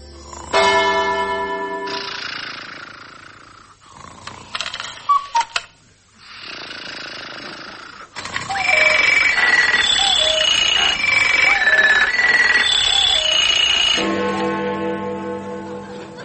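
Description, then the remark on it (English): A clock chimes a short melody of bright, ringing notes, then strikes one o'clock with a single loud, deep strike that hums as it fades. No one speaks over it. “Must be 1 o'clock.”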